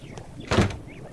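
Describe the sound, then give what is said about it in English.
A door swings shut with one solid thud, preceded by a brief scraping sweep. Nobody speaks, and it goes quiet again afterward. “Because even if you do get untied, the only way out of here is through this door.”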